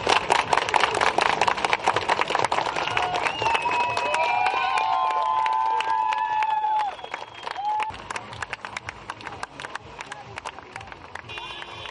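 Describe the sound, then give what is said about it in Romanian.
At a protest called via social media, a crowd of protesters claps steadily and continuously while several car horns honk in long overlapping blasts through the middle stretch, voicing discontent without slogans; then the applause carries on alone, a little quieter. “Protestatarii au fost convocați la acest protest prin rețelele de socializare și nu au fost strigate niciun fel de lozinci antiprezidențiale sau antiguvernamentale, oamenii manifestându-și nemulțumirea, cum ați auzit, prin aplauze și claxoane.”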